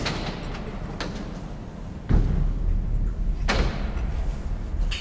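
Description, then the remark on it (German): A huge, heavy steel door slams shut, closing off a tunnel inside a dam, with a deep, booming impact, followed by a lingering low rumble and a second softer thud echoing. “Oh, wenn jetzt die Tür zugeht, ist dunkel, ne? Eine riesengroße Stahltür und jetzt sind wir in einem Tunnel.”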